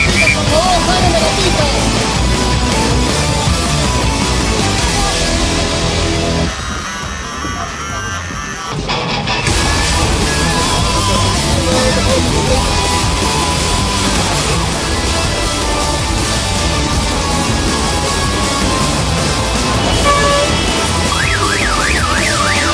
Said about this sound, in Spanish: Por eso que se hace la congestión. ¿Por qué? Un solo sentido. Camiones, carros, todo.